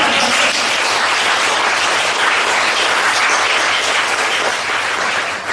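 Sustained audience applause, a dense wash of many hands clapping at steady loudness for several seconds and tapering slightly at the end, with no talking over it.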